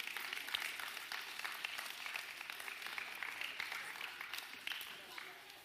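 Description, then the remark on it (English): An audience applauds steadily for several seconds as kids and youth are dismissed, dense overlapping claps at moderate volume, without tapering off. “So with a big round of applause while they pick up your stuff, kids and youth are dismissed.”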